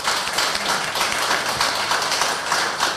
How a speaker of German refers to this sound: Nochmal riesengroßen Applaus für die Netzpiloten.